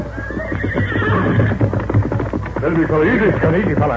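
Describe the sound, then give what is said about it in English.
The horses Silver and Scout from The Lone Ranger whinny loudly and repeatedly over the rapid drumming of galloping hooves as they dash across a level stretch, energetic, filling the whole few seconds with a busy, rushing clatter. “Doc Stevens, call your horse. Here's Silver. Come, scout.”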